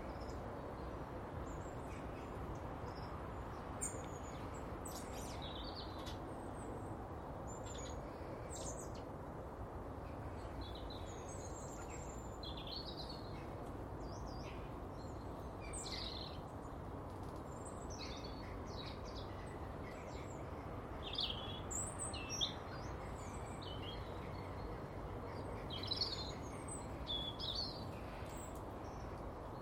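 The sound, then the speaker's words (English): A flock of birds calls steadily, with many short, high chirps and squawks overlapping throughout, over a constant low rumbling background. No one speaks. “It's good to hear them. It's usually about this time of the year when I start to get them here, but the flocks are getting smaller and smaller.”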